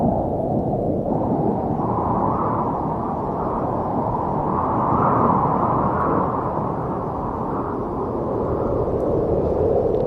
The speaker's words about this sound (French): Le vent, la montagne. C'est Shining, hein, là.